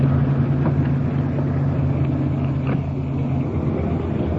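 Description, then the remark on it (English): A car engine rumbles steadily with a deep, even hum as the vehicle eases along out of the middle of the street and pulls up against the curb, with no voices present. “Why don't you pull it up against the curb and get out of the middle of the street?”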